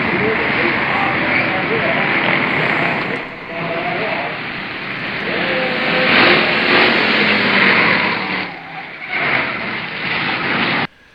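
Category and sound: vehicle, stock car engine revving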